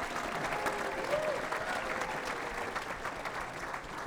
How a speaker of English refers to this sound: So give yourself a big round of applause for coming and seeing live music at the Cedar.